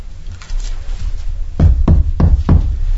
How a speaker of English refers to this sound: You hear that knock